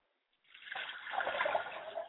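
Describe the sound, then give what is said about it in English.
Water is poured out onto the ground as a libation in a single steady stream, splashing and spattering for about a second and a half before stopping. No one speaks. “I pour libations to the south, and I say, Ashe.”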